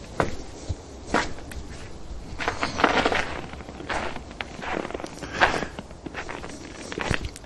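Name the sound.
footsteps crunching in snow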